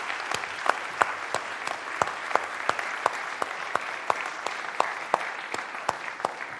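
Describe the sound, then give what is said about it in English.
An audience claps steadily for several seconds in appreciation of volunteers, a dense wash of hand claps with sharper individual claps popping out at a fairly regular rhythm, moderately loud and with no talking over it. “So why don't we give our volunteers a round of applause?”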